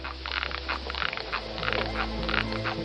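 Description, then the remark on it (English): A steady series of rapid, clicking ultrasonic chirps from ermine moths, a warning to bats that they are poisonous, repeating in quick pulses over a low background hum with no talking. “These ultrasonic chirps are a warning sound to bats that they are poisonous and should be avoided at all costs.”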